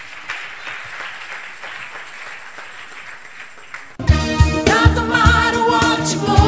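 audience clapping hands

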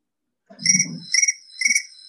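crickets chirping

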